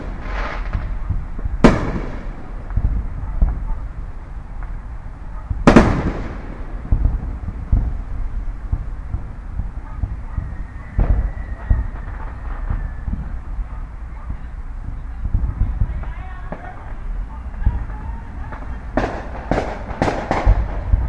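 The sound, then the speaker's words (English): Fireworks downtown, about 3 miles away, boom and rumble continuously like distant thunder, with a few sharper cracks standing out during the finale. No one speaks. “the distant is the downtown fireworks.”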